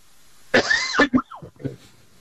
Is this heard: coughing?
yes